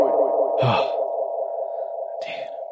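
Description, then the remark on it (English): A steady, ringing tone drenched in heavy reverb and echoing delay from audio plugin effects, with two short breathy bursts that smear into the lingering wash of sound. “Maybe we need a little delay. Yeah, can we get a reverb?”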